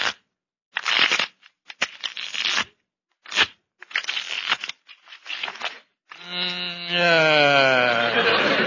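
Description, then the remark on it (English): Playing cards are shuffled for a card game in several quick, crisp riffling bursts with short pauses between them, fairly loud, then a sustained wavering tonal sound takes over at the end. “Now I'll just shuffle the cards here.”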